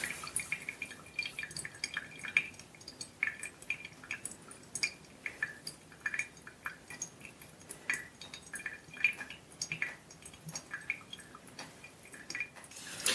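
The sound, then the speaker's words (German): Steady, irregular dripping of coffee through a pour-over filter into a vessel, small drops patterning continuously at a quiet level with no voices. “So, jetzt wird's wieder spannend, wenn das letzte Wasser weg ist, zu sehen, wie das Kaffeebett aussieht.”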